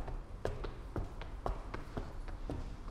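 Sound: footsteps walking up stairs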